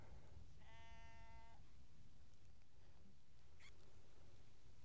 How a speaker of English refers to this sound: Apart from the sheep that are surrounding me, nibbling on the rich grasses of the moor, it is very lonely up here.